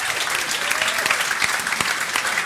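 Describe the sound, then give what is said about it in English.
A live show audience claps steadily for the lads before a break, dense overlapping handclaps forming a loud, even wash of applause with occasional sharper individual claps standing out, no voices over it. “Give the lads a round of applause.”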